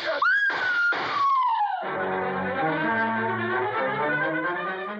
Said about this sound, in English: Whenever there's a gunshot and a scream, there's usually some music after that